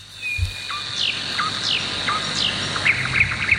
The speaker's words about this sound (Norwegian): Og da kanskje når man sitter i solveggen, ikke sant, med en kopp kaffe, og så hører man nattergalen da, som vi hører her.